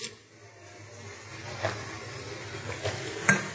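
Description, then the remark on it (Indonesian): A speaker pauses during a religious talk to take a drink: a few soft sips or swallows spaced over a few seconds, ending with a sharper tap, all faint over a steady low hiss with no talking. “bisa ana izin minum dulu, bismillah”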